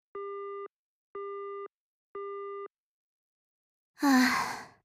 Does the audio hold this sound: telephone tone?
yes